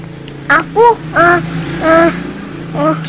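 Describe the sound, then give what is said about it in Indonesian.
A child's voice imitates a motorboat engine in about five short, revving vocal bursts with rising and falling pitch. It is fairly loud, over a low, steady hum. “Aku perahu motor.”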